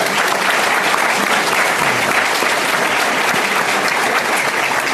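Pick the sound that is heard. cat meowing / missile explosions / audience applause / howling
audience applause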